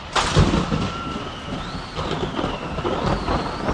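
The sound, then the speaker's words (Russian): A sudden thunderstorm over an open field, like the one that caught Martin Luther returning to university: thunder breaks in abruptly and keeps rolling in a deep, continuous rumble, with a steady hiss of rain and a thin wind-like whistle drifting above it. “Возвращаясь в университет после очередных каникул, Мартин был застигнут в поле внезапной грозой.”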